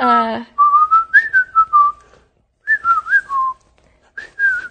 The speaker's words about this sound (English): I'm just proving that you can still whistle even if you have a cell phone.